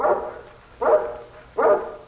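A guard dog belonging to Mr. Karowitz, of a mountain breed nicknamed Sokol, barks three times at a steady, evenly spaced rhythm, each bark full, with quiet gaps in between and no voices.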